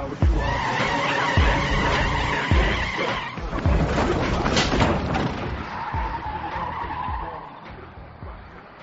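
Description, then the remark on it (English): Tires squeal and skid loudly as a stolen car, taken by Neil Patrick Harris, revs and tears away, the screech sustained for several seconds before the engine noise gradually recedes. “Did Doogie Howser just steal my fucking car?”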